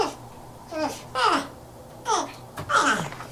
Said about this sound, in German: So hören sich Stachelschweine an.